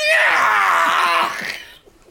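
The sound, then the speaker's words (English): A person lets out a loud, sustained anguished yell, a strained scream held for over a second before trailing off, imitating a dramatic cry of pain. “Out of all the yells, you keep that one.”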